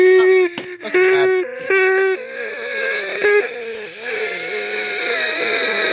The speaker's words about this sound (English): You're done! With the yawning!